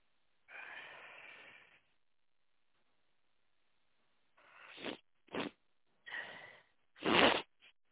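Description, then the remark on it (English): A long breathy inhale followed by a cluster of short, sharp nasal sniffles, fairly loud, with the last one the strongest. No one speaks. “Yeah, just got a bit of a sniffle.”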